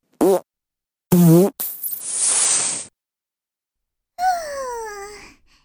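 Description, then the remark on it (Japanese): A series of wet, sputtering fart noises made into the listener's ear, several short bursts followed by longer buzzing blasts, loud and intimate with brief silences between them. “お鼻の奥の奥まで、耳のおならでぐしゃぐしゃになっちゃえ。”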